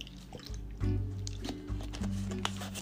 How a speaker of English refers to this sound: Sorry, I gotta drink some water.